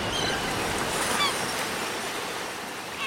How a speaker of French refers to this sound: Il est 11h, on laisse passer une petite mouette ici.